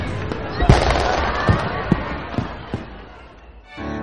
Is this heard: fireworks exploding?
yes